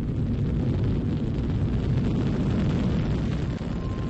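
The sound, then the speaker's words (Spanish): A powerful Titan IVB Centaur rocket launching from Cape Canaveral in October 1997, carrying the Cassini-Huygens planetary probe: a dense, steady rumbling thunder with crackling texture that stays loud and continuous throughout, with no voices present. “En octubre de 1997 despegaba desde Cabo Cañaveral uno de los cohetes no reutilizables más potentes que existen. El Titán 4B Centauro.”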